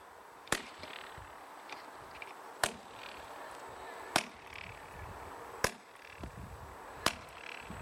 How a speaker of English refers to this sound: The sound of the flint being struck had bounced off the parallel walls of the courtyard in such a way as to cause what acoustic experts call a flutter echo.